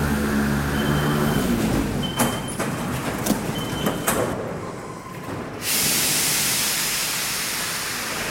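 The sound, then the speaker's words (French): Paris metro line 13 train ambience at 7:30 in the morning: a steady rumbling hiss of a moving carriage with brief clanks and thumps, a door-like whoosh, then a sustained loud rush of noise near the end; no one speaks. “Nous allons la suivre sur la ligne 13 du métro pour l'accompagner à son travail.”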